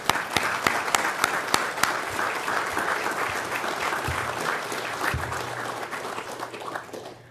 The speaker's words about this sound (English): We owe you our deepest gratitude, because without you and your support, none of this would be possible. So we're gonna applause for you right now, just for a little bit.